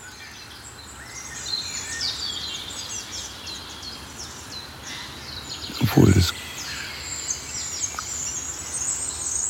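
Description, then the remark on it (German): A wood warbler sings high, thin trilling phrases over a steady background hiss, with a short spoken word breaking in briefly partway through. “Und hinter uns ist der Waldlaubsänger.”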